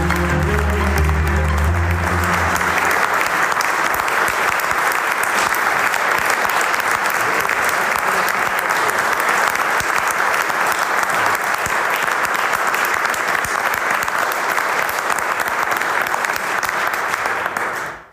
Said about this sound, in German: Was für ein schöner Willkommensapplaus. Wir waren uns nicht sicher, ob das Publikum überhaupt applaudieren wird, wenn wir auf die Bühne kommen. Herzlichen Dank für diesen schönen Empfang.